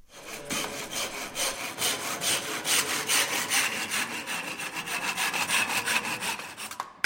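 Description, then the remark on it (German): Craftsmen hand-sawing through wood with steady back-and-forth rasping strokes about two per second, fairly loud, mixed with scraping and rough planing of timber, while finishing a new steam bath at St. Johann railway station; no voices. “Noch schruppen und sägen die letzten Handwerker, noch liegen Kabelrollen und Bohrmaschinen rum.”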